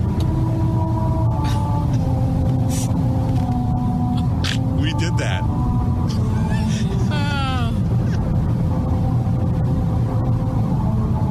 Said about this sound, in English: Drive your car 45 miles an hour and go over the bumps and...